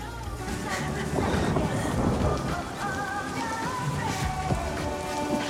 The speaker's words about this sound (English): Oh my God, this rain sucks.